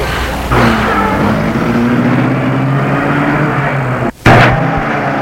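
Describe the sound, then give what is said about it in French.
A chauffeur starts a Rolls-Royce car: the engine turns over and settles into a steady rumbling idle with a low hum; near the end the noise cuts out for a split second, then bursts back loudly. “Le chauffeur met la voiture en route.”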